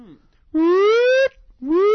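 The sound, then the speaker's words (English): A voice imitates a warning siren with two rising, wailing tones, the first long and steady, the second starting after a brief pause and cut off partway through. “Nice siren, thank you.”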